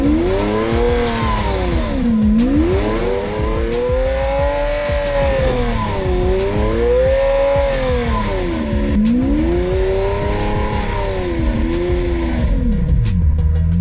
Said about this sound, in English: No, dude, you almost went in the lake. I'm getting better at drifting, I'm good.